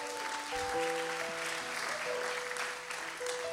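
A church audience claps steadily, a dense, even wash of many hands that holds throughout, with sustained low musical tones sounding faintly beneath the applause.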